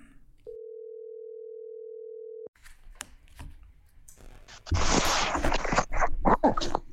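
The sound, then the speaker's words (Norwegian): A single steady telephone ringing tone holds for about two seconds, clear and fairly loud, then gives way to crackly line noise and louder rustling bursts as the call connects. “Kanskje vi skal ringe han og høre da? Vi ringer og hører hvordan det går.”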